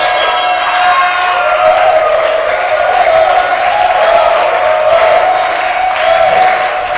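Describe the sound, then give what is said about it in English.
An audience claps and shouts together in a loud, continuous wash of hand claps and raised voices, with a steady sustained tone holding underneath for the full seven seconds. “I want you to clap and let yourself go in the Holy Ghost and shout, yeah!”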